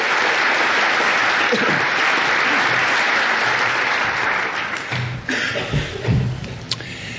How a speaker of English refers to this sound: I think it's a real honor for me to be here at the invitation of the ACLU chapter, and it's a wonderful tribute to your university that the first campus ACLU chapter was formed here. So how about a round of applause for ACLU?